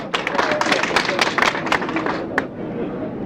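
An audience applauds as a participant from Arezzo is called up for their turn, with dense, overlapping claps that hold steady for a couple of seconds, then thin out and fade away.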